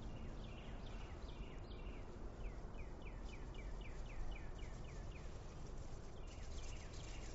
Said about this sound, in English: Birds singing.